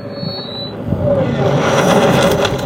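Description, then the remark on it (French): A piercing high-pitched Larsen feedback squeal effect rings steadily for under a second, then gives way to a dense, rising wash of noisy, whirring sound with a low hum running beneath; part of a cinematic sound-design sequence. “Là, le battement de cœur, on est dans sa tête, les Larsen.”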